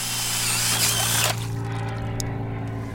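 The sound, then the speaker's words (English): A power drill whines steadily as it bores into ice, about 8 inches thick, on a frozen river near open water to check how thick it is, loud, its pitch and grinding noise easing partway through as the load shifts, with no one speaking. “drills into the ice nearby to see how thick it is.”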